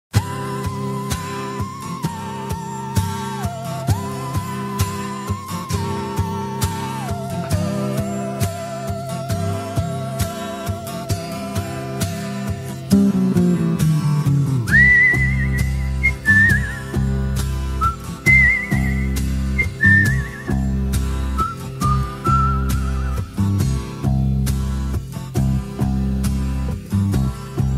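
Intro of a 1978 Italian pop song: a whistle-like lead melody glides down in steps over a steady beat, then the band swells louder and the melody jumps higher. No singing or talk.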